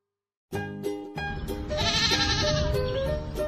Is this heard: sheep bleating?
yes